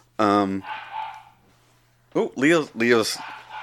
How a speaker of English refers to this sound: Shut up, you fucking dog.